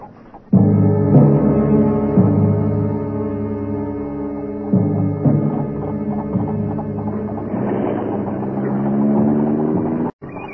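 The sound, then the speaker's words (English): The McGregors' old motor car engine starts up and runs steadily, revving now and then with a rough, humming drone as it pulls away. No one speaks over it. “they own a motor car”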